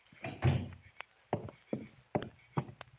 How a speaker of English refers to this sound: shut the door. Keep the rest of the family out of here.